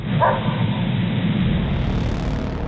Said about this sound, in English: The transcript also notes the sound of a dog barking.